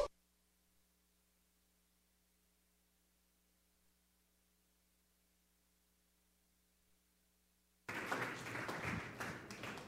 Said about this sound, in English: That was awesome. It's always my favorite when people clap before I preach.